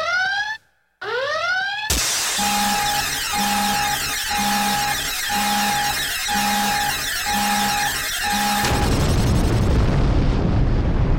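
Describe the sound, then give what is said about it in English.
An explosion sound effect played on radio: rising sci-fi whooshes lead into a sudden blast, then a pulsing two-tone alarm repeats steadily over a rumbling bed before a loud, roaring explosion washes over the end. No talking. “On radio, like, you need explosions and sound effects for some reason.”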